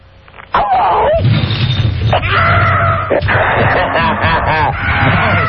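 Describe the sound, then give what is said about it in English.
A person roars like a huge monster, a loud, sustained, raspy growl lasting several seconds with shifting strained tones and a few wavering breaks. “No, really roar, like a real big monster.”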